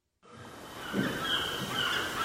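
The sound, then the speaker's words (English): Seagulls call in a series of harsh, drawn-out cries over a steady wash of Pacific Ocean surf and wind noise, heard at a three-story townhouse in Santa Monica, Southern California, the birds moderately loud. “This three-story townhouse in the neighborhood of Santa Monica is so close to the Pacific Ocean, you can hear the seagulls.”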